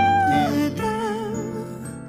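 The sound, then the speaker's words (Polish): A cat lets out a long, drawn-out meow that wavers and slides in pitch, loud, lasting about two seconds with no talking. “tyle razy on starał się tego nie dostrzegać, traktując zagrane przez kota dźwięki jako nieistotne kocie miauczenie.”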